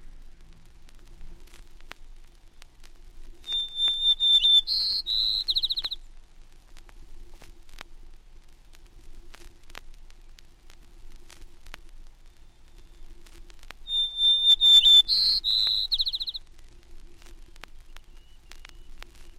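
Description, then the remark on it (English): A white-crowned sparrow, a bird of timberline, sings twice, each song opening with a clear, high whistle and breaking into quick buzzy, trilled notes, with about ten seconds of quiet, faintly hissing pause between. “The white-crowned sparrow is a neighbor of the gray-cheeked thrush at timberline.”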